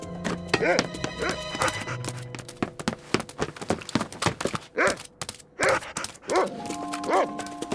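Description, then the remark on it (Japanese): A trained dog barks repeatedly in sharp, excited bursts while chasing someone, with busy scuffling and rustling noise between the barks as it runs. “訓練された犬から逃げられると思うな。”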